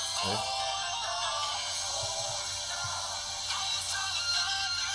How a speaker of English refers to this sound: My hand getting sore holding up the phone to the mic. Enough with the church organ already.